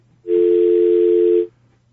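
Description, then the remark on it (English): A loud, steady telephone dial tone sounds alone for just over a second, then cuts off abruptly, leaving only a faint low hum underneath as if the call dropped. “No dial tone here.”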